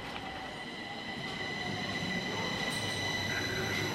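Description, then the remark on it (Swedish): A subway train rumbles steadily through Skanstull metro station, its wheels giving off a sustained high metallic squeal over the low roar. The sound is continuous, with no one speaking. “Och nu så närmar vi oss nedgången till Skanstulls tunnelbana där vi ska titta på affischer.”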